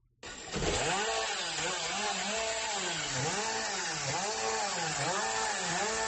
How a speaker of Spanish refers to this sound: Fíjate qué tremor, que cómo nos estremece el oído de la motosierra.